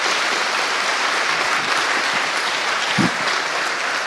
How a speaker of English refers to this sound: So, thanks, guy. I can have a little applause